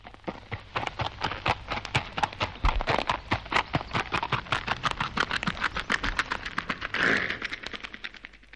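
An artificial horse-hoof sound effect: a brisk, steady clip-clop of many sharp, hollow knocks at a trotting rhythm, fairly loud, continuing for several seconds with no talking.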